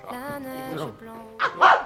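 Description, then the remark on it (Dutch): A dog lets out a drawn-out whine that slides downward in pitch, then breaks into a few short, sharp barks in quick succession. “Dat is een droomhundrum. Die is helemaal onschadelijk.”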